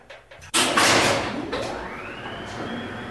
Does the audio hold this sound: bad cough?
no